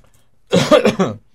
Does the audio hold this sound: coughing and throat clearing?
yes